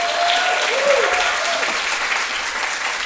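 Steady audience applause, a dense wash of many hands clapping at an even, fairly loud level, with a brief whistle or cheer rising near the start, given as another round of applause for a performer.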